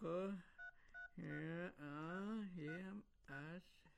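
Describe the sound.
Two short telephone keypad beeps sound in quick succession, clear, squeezed between stretches of a person talking, as a number is dialed on a mobile phone.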